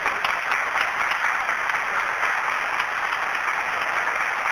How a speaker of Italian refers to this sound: Alzatevi in piedi i nuovi di questo primo anno, comunione. Chi è la che viene qui per la prima volta, il primo anno comunione? Sono piccoline e non si vedono. Bravo, un applauso, benvenuti.